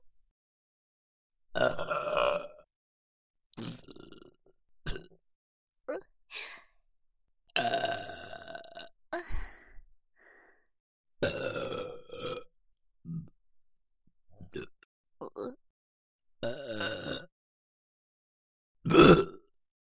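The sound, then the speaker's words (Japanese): A series of loud, close-up burps, around ten in all, some long and drawn out and others short, spaced irregularly with brief silences between them. “…だけあってくっさい精液ゲップだよ。”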